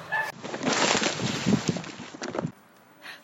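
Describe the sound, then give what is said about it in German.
A sudden burst of bird noise, harsh fluttering and squawking lasting about two seconds, then cutting off abruptly to near quiet. “Ich glaube, hier ist ein Vogel.”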